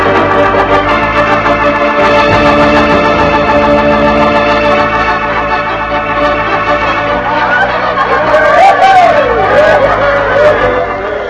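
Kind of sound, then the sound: ambience, crowd chatter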